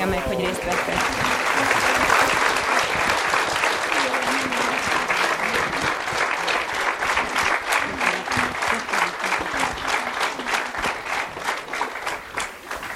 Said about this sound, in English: Please give them a round of applause for their participation this afternoon.